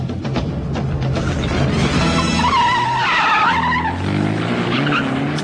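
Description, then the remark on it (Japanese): A car engine roars as tires squeal sharply in a long skid, the vehicle accelerating hard and speeding off west from Beika 5-chome. Loud throughout, with no voices. “彼らの車は米花5丁目から西へ追跡を。”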